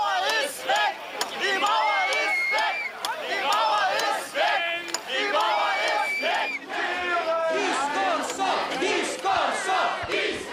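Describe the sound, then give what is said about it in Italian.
A roadside crowd at the south portal of a motorway tunnel, on the tunnel's opening day, cheers loudly and continuously, many overlapping voices shouting and whooping at high pitch, with occasional sharper yells rising above the steady roar for the full length. “C'è molto entusiasmo qui sul ciglio della strada al portale sud della galleria autostradale”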